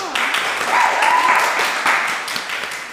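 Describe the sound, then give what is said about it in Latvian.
Steady applause from a group for teachers, dense overlapping claps sustained for about three seconds at even loudness, with a brief faint whistle or cheer rising through it partway. “kas ir brīnišķīgi pedagoģi ar aplausiem.”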